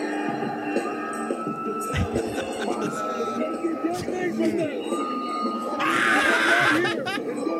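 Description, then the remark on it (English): A dense crowd of John Cena fans yelling and chattering, building into a loud burst of high-pitched, frenzied screaming near the end, with excited voices overlapping throughout. “the reason I think he sells the most tickets is because for some reason, the people who do love him so much that they scream insanely.”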